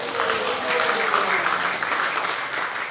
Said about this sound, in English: Yes, it is worthy of applause.